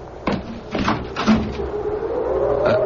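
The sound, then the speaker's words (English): Several dull, uneven knocks on a wooden door, spread across a few seconds and fairly loud, over a steady low background hum with no one speaking. “What's that? Someone's at the door.”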